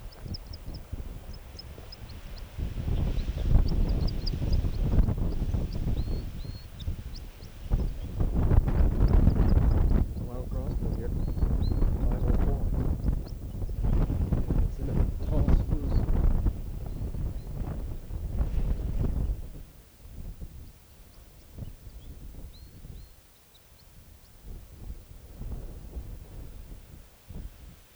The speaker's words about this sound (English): crossbill just flew over and is singing now from the top of a very tall spruce.